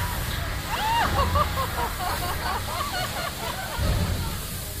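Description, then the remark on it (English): Water sloshes and churns steadily for several seconds, loud, with a low rumble beneath and an indistinct murmur of voices mixed in; a staged physical effect simulating a boat taking on water. “Let him know you might be taking on just a little bit of water.”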